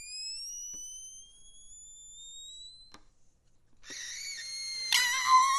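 Music for balloon and violin: long, shrill squealing tones slowly rise in pitch, break off briefly, then return as a dense, piercing tangle of overlapping squeals. No voices are heard.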